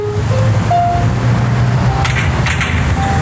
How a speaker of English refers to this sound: Just off of southbound Mexico 1 in Tijuana, jugglers entertain drivers, and just below the din of traffic, if you listen carefully, you can hear a piano.